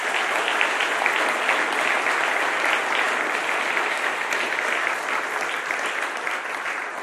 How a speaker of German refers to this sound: Ich finde, wir sollten erst mal klatschen und Applaus geben.